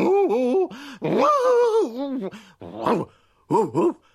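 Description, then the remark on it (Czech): A person's voice imitates a dog, letting out several loud barks and growly whines with wavering pitch, separated by short pauses. “Vlastně štěknout. Nerozumím tě ani štěk, štěkáš strašně nesrozumitelně.”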